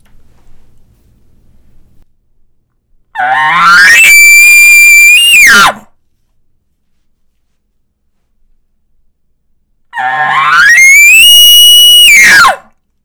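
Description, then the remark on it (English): Two loud elk challenge bugles, each roughly two and a half seconds long, starting with a low throaty rasp and rising into a shrill, harmonic whistle before cutting off abruptly, separated by quiet. “Next is a challenge bugle. It's throatier and it's much shorter, but the intensity, you can hear the intensity difference.”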